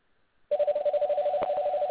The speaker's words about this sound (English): Do you want to answer that phone call?